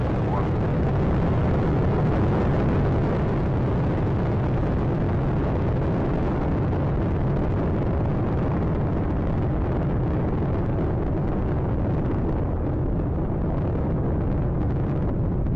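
Space Shuttle Atlantis's three engines roar at liftoff on its final Hubble mission: a loud, steady, crackling rumble, heavy in the low end, that holds at full strength for the whole stretch without a break.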